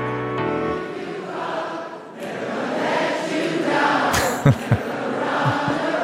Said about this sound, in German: tatsächlich beim Eröffnungstalk hat das ganze Publikum auch gesungen, das klang so.